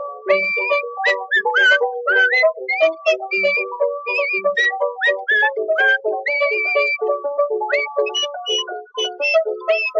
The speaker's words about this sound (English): and when I go to see my babe, she whistles me this tune.